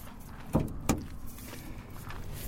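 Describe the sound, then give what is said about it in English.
A truck hood being opened: two sharp metallic clunks about a third of a second apart, like a latch releasing and the hood lifting, over a steady low outdoor rumble with no talking. “There goes the hood.”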